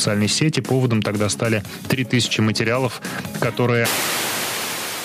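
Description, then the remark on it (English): A male announcer on a popular Russian radio station speaks steadily in a broadcast voice for nearly four seconds about Russia's censorship watchdog. He is abruptly cut off as the station is taken off the air, and loud, continuous hiss of radio static replaces him. “Echo Moscow turned to static just as the announcer was talking about Russia's censorship watchdog”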